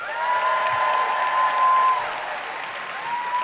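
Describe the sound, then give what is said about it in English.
A debate audience bursts into steady, dense applause for the pro side with a few scattered cheers mixed in, loud and sustained throughout, the clapping swelling slightly in the middle before continuing evenly to the end. “All right, by applause, who cheers for the pro side?”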